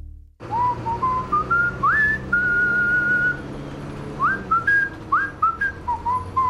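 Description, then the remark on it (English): A person whistles a bright, bouncy song melody, the pure tone stepping between held notes and quick upward slides, with a low hum of background noise underneath and no talking. “You were just whistling it.”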